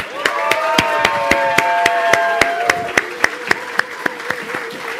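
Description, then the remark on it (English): An audience at a church service applauds for the mothers: sharp, distinct claps land in a fairly steady rhythm over a wash of crowd noise, with sustained voices cheering underneath for the full five seconds. “And first, can we have a round of applause for the mothers today?”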